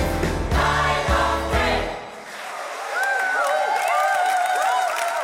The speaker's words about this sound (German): Applaus für den … aus Saalfeld.